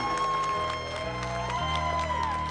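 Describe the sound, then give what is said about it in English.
An audience claps and cheers steadily throughout, a dense patter of hands mixed with crowd noise, while sustained music with low stepping bass notes plays underneath. “Can you give her one more hand clap and say thank you so much?”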